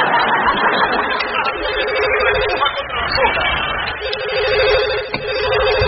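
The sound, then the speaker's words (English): A telephone rings in repeated bursts and goes unanswered, its electronic trill sounding over a steady murmur of crowd chatter and scattered light laughter. “No, see, I'm trying this new screening thing. You know, I figure if I'm always answering the phone, people will think I don't have a life.”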